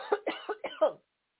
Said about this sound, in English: Boy, I need a cough button on here.